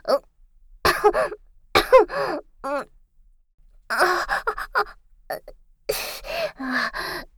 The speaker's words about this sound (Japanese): ただちょっと、風邪気味で、咳が。また咳が。